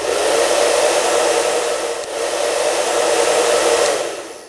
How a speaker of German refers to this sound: Blase das Ohr mit einem Föhn trocken. Klingt bescheuert, aber da sind auch 2 Verweise auf Personen, bei denen es geholfen hat. Dann wollen wir mal.